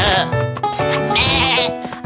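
A sheep bleats loudly, a sustained, quavering cry with a wavering pitch that stretches for about two seconds, with no talking over it.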